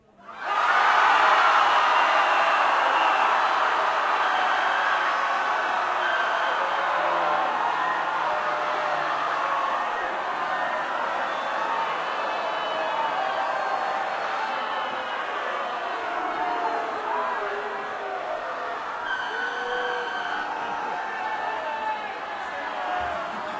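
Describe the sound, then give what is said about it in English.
A concert audience screams and groans together on a signal in a loud, sustained wall of voices, with wails and moans rising and falling throughout before the noise gradually thins slightly toward the end. “The signal, then the scream, some moaning, some groaning.”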